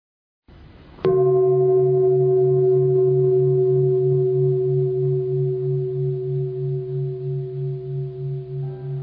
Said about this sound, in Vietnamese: Mà các bạn nghe ba tiếng chuông rồi chúng ta kết thúc.